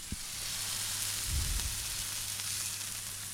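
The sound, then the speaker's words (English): Breakfast sizzles steadily in a frying pan in a kitchen, a continuous crackling hiss with a soft low clunk partway through and a faint background hum. “I'll give them a bit of ASMR. You got some sizzle, one sec.”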